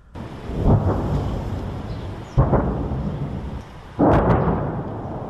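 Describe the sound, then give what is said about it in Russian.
Three heavy booms of battle echo in from the surrounding area one after another, very loud, each bursting out and then fading into a long, deep rumbling echo, shaking the ground. “С окрестностей доносится эхо боя. Очень громко.”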